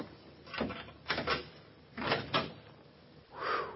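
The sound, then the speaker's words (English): A door is worked open with a few rattling, scraping bursts, then a final longer creak as it gives way, moderately loud, with no voices. “This is the door, I think.”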